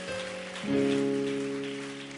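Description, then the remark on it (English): A church audience claps in thanks to the church's sound people in a dense, steady patter of applause, with sustained musical tones swelling underneath partway through. No one speaks. “Let's give them a hand clap of thanks.”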